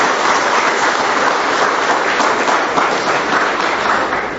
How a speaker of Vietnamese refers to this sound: Thế là ra đi, và chiều hôm nay gặp anh chị em ở đây, hân hoan tạ ơn Chúa và chào nhau một tràng pháo tay nồng nhiệt với anh chị em.